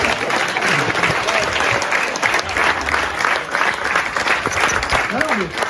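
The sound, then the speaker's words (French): Steady, dense applause from an audience fills the whole stretch, loud and continuous with a busy clatter of many hands, with some faint voices mixed underneath. “Merci, merci, bravo. Applaudissez-le parce qu'il a pété ma bagnole.”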